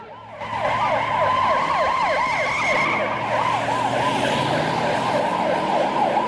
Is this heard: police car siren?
yes